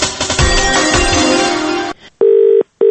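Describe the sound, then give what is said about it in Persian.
After a dense, crackly burst of noise, the Radio Azadi automatic telephone line's answering-machine beep sounds, signalling callers to leave a message: two loud, steady electronic tones in quick succession, clear, with the second cut short at the end. “لطفاً در شماره تلفن اتومات رادیو آزادی پیام بگذارید.”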